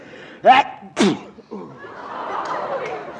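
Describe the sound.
Two loud, abrupt sneezes in quick succession, each a sharp voiced burst, followed by quieter murmuring and shuffling noise.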